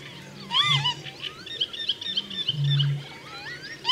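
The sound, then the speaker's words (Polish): Agitated lapwing distraction calls, given by nervous birds as a person approaches, often far from the nest: many rising and falling whistles overlapping, sounding continuously for a few seconds over a low droning rumble that swells twice in the background. Nobody speaks. “Często odzywają się w ten sposób w znacznej odległości od gniazda, starając się go zmylić i odciągnąć od swych jaj.”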